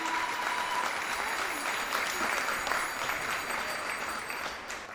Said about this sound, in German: Der niederländische Turner springt von seinem Rad ab. Das Publikum applaudiert, landestypisch mischen sich Fahrradklingeln der niederländischen Fans in den Applaus.